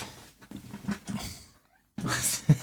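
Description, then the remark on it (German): A pet cat coming into the room wanting attention meows in a few short, plaintive calls, followed after a brief pause by a louder, more insistent meow. “Jetzt kommt mein Vierbeiner hier rein. Möchte Aufmerksamkeit. Kommen die Katzen und wollen auch mal zählen.”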